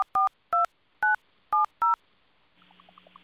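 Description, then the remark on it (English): Six crisp telephone keypad tones, each a short two-pitch beep spaced evenly apart, as a 6-digit code is entered on an automated T-Mobile refill phone line, followed by a soft warbling electronic tone pattern as the line responds. “We've sent a special 6-digit code to that phone. Please enter the code now.”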